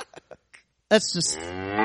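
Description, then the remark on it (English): A cow lets out a loud, drawn-out moo that rises then holds a steady low tone, preceded by a few soft scattered clicks and rustles. “It's actual audio of her hunting down a cow.”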